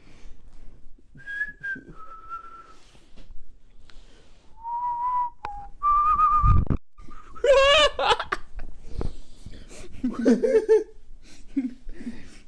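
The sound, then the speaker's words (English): Someone whistles a short tune of clear, sustained notes, pausing between phrases, then the whistling dissolves into bursts of giggling laughter. “We can stop the tickling if you stop the whistling.”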